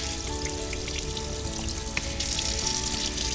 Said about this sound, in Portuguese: Eu coloco o arroz numa peneira de aço e vou lavando ele embaixo da torneira da pia, até perceber que a água sai transparente, que todo o amido foi retirado, tá? Vamos então lavar isso aqui, ó.